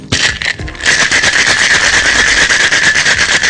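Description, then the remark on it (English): A cocktail shaker holding lemon and thyme infused vodka, agave nectar and lime juice is shaken hard and fast, ice rattling and clattering in a dense, loud, continuous burst after a brief stop-start beginning, with no voices. “And then, like a baby that won't stop crying, I give it a good shake.”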